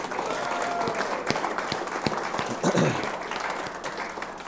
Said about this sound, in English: And you got to respect and honor that. Amen. So give them another hand clap.